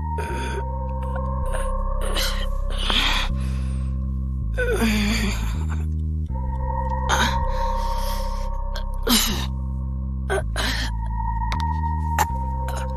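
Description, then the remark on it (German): Labored gasping for air by a woman lying paralyzed after an accident, several strained breaths spaced a second or two apart, over a steady low droning musical background. “Das Atmen fiel ihr schwerer, immer schwerer.”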